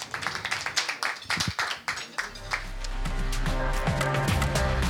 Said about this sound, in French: Allez, on peut s'applaudir, bravo.